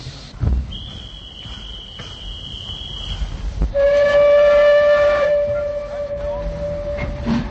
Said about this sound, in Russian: Дежурный по станции свистнул.